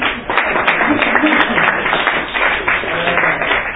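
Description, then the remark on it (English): A group at a Charter Review Committee meeting gives a steady round of applause to welcome a new committee member, dense overlapping claps at an even loudness sustained for about four seconds with no pauses. “A round of applause here.”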